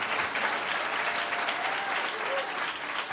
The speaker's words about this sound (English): And so before I let you go, if you can, good round of applause, because I need a hand.